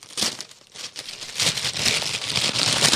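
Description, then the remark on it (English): Wrapping paper crinkles and rustles continuously for a few seconds as a gift is unboxed, a dense, bright crackling texture that swells in bursts as the sheet is handled and unwrapped. “crinkle, crinkle. Manly paper crinkle.”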